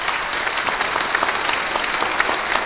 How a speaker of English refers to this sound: I was waiting for some applause.